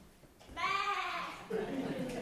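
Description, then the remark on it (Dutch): In a church, a human voice imitates a sheep with a single drawn-out, wavering, loud bleat. Its pitch drops into a second, shorter bleat at the end. “En het schaap.”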